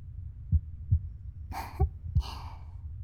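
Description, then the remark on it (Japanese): A steady, muffled heartbeat thumps low in a regular rhythm, with two soft breathy rustles drifting over it partway through. “お母さんの心音を聞いて生まれてくるからとか？”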